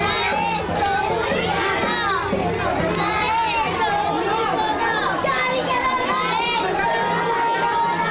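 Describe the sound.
A crowd of children chants the protest line 'maestro unico no' together in high, overlapping voices, loud and continuous, with a busy, echoing hubbub of many kids around them throughout.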